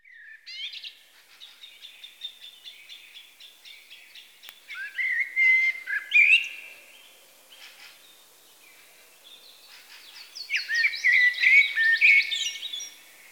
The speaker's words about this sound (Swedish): Och den lilla koltrasten som ännu sjunger. Det är den svenska nationalfågeln för övrigt.